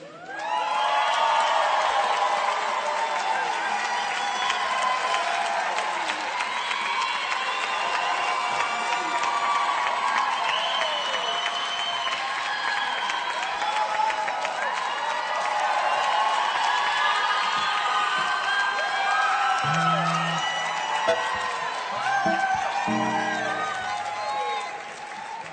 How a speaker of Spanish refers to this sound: Quiero que le den un fuerte aplauso a ….